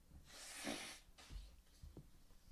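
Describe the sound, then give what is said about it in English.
A forceful nose blow of snot and phlegm: one long rushing honk of air, then a shorter second blow, followed by faint sniffling and rustling. “Let me fucking blow my nose.”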